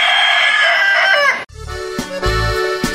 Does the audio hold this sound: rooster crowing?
yes